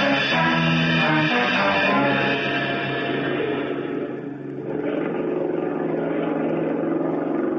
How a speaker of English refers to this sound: Oh, better sit here where we can hear that outboard motor. It might cut off.